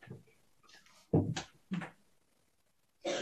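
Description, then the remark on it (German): An awkward silence in a discussion of Munich's finals series, then two short, harsh coughs in quick succession from the background, followed by another burst of noise after a brief silence. “Betretenes Schweigen und Husten aus dem Hintergrund.”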